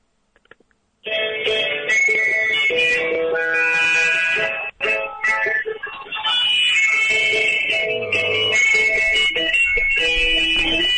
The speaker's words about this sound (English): Oh. Hello. Sorry about that. My watch alarm went off. Your watch? That's your watch alarm. Of course it is.